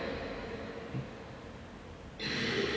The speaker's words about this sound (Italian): E spero che nessuno si scandalizzi, però proviamo in silenzio, no? A prendere il ritmo del respiro.